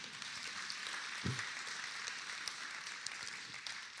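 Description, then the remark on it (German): An audience at a church service claps steadily throughout, a dense, even patter of many hands, with no talking over it. “Und ja, das ist ein Applaus wert, ja.”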